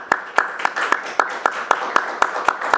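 Audience applause for an author at a book presentation: a dense wash of clapping with one set of sharp, steady claps standing out in a regular beat throughout, holding a fairly even loudness with no voices.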